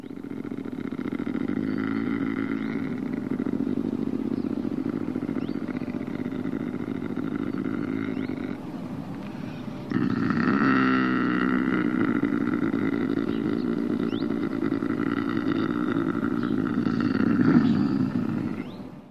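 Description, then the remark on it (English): A lynx's mating call: a long, rasping, growling yowl sustained for about twenty seconds, harsh and loud like a chainsaw or heavy snoring, with a brief break midway before swelling again. “That's the sound of a lynx.”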